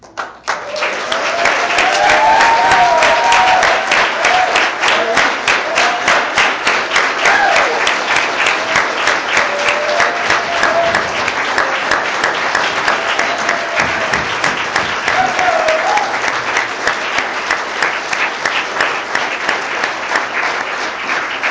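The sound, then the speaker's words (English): A standing audience claps steadily for about twenty seconds for a man walking down, dense and loud, with scattered whoops and cheers rising over the applause before it gradually thins slightly toward the end. “I want you guys to clap and cheer for him.”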